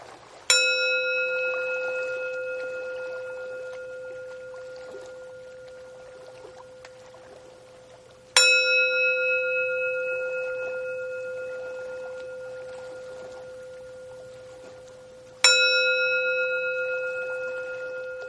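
A resonant bell strikes three times, each clear ring with bright overtones sustaining and slowly fading for several seconds before the next, heard alone against a quiet background.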